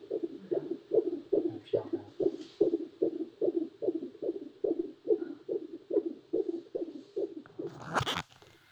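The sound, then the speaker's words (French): A rapid, steady fetal heartbeat through a doppler monitor: a long run of evenly spaced, muffled whooshing thumps, quick and regular, ending in a brief burst of crackling static. “Ben, il faut qu'il arrive entre 115 et 165 battements par minute.”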